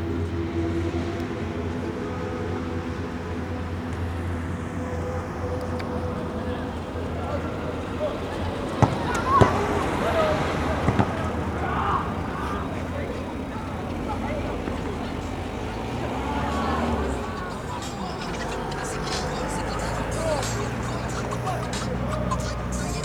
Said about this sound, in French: comme un véhicule qui va passer dans le quartier, va laisser son empreinte sonore à l'intérieur de la nef, mais complètement transformée